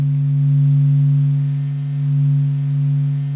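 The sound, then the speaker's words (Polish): A low, steady electronic drone of layered sustained tones, vibrations of the Sun sonified from SOHO space probe data, swelling and ebbing slowly in loudness with no voices present. “Ten dźwięk został wygenerowany na podstawie danych z sondy kosmicznej SOHO.”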